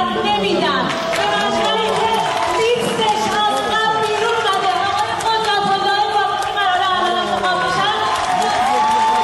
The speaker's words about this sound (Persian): بله، این حرفا و این اکت اعتراضی با تشویق بیشتر حاضران مواجه شد که نشون میداد اکثر غریب به اتفاق مهندس‌ها هم از این وضعیت دلشون خونه.